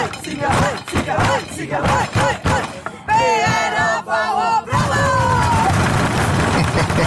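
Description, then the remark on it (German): A crowd of campers at the Pfingstlager (Pfila) in Wettigo, Canton Aargau, chants loudly in a quick, rhythmic call of short shouted syllables, "Ziege, Zage, hoi, hoi, hoi", then breaks into sustained, high-pitched cheering and yelling that continues to the end. “So klingt das am Pfila am Pfingstlager zu Wettigo im Kanton Aargau.”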